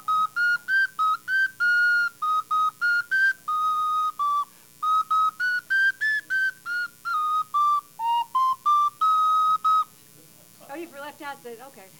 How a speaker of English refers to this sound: It could be fife and drum.